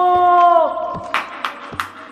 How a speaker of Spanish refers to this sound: Él es un espantapájaros vivo, un niño cuidador de milpa, armado con su resortera, va entrenando su boca para llenar su voz de espanto. ¡Aó! ¡Aó! ¡Aó! ¡Aó! ¡Aó!